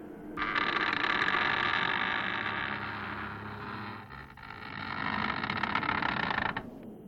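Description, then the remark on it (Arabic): A heavy door groans and scrapes open in one long, loud grinding creak that lasts about six seconds, briefly easing midway before continuing, with no voices. “افتحوا الباب، إنه الموقر فراموا.”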